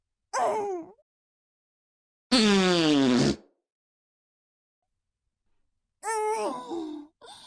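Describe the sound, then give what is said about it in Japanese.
Three loud, drawn-out greasy fart noises imitated by a voice, said to come from eating aburaage (fried tofu), each a buzzy, wavering blast separated by short silences, with the middle one the longest and steadiest. “もっとこっテリした脂っこいおならをくれてやろうぞ。”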